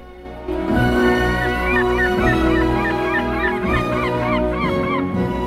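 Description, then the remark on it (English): Harsh, repeated cries from a seagull overhead ring out loudly, a steady run of overlapping squawks over a low background rumble, with no one speaking. “Maria watches them coldly, and then looks up at a seagull overhead.”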